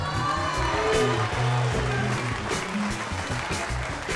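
A crowd in the Radio Nacional auditorium claps and cheers steadily for about four seconds during a live rock show, a dense, loud wash of applause with scattered voices and whoops rising through it.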